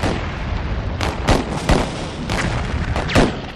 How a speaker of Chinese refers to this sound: 而同时港口对面的邦联炮舰亦做好准备，他们的炮声就是开战的信号，港口周围的其他炮舰会一起投入战斗。